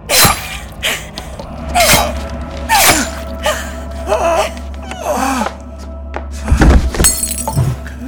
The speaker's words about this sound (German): Die Lampe fiel zu Boden. Das Glas zersprang. Das Öl lief aus.